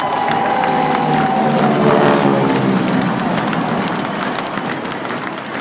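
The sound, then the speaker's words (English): A World War II era propeller plane roars overhead during Military Appreciation Day at the Virginia Tech football game on September 17, 2016. Its droning engine pitch slides gradually lower as it passes, while a large crowd cheers and shouts steadily underneath. “This week, that sound of a World War II era plane during Military Appreciation Day at the Virginia Tech football game on September 17, 2016, opens our focus on the U.S.”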